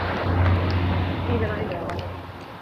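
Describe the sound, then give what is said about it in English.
Cars passing on a road make a steady, fairly loud rumble with a low engine hum, and a few brief clatters rise above the continuous traffic noise. “Cars on the road, people on the sidewalk.”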